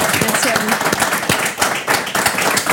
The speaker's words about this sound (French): Très bien, parfait. On peut l'applaudir.